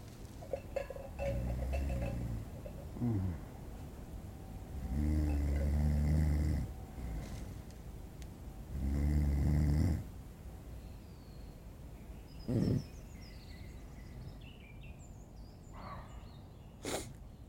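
A dog snores in three long, rumbling breaths spaced a few seconds apart, followed by a sharp snort and quieter, wheezy breathing toward the end.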